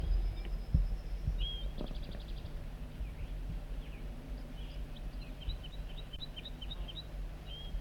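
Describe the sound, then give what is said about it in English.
A wild banded male bird sings in high, thin notes: a brief rapid trill, then a run of short chirps repeated in a quick, even rhythm, fairly soft over a low steady rumble. “And he escaped or whatever and flew back to the singing wild banded male.”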